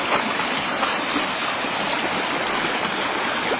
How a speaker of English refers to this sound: Sometimes the creek tries to cut new trails.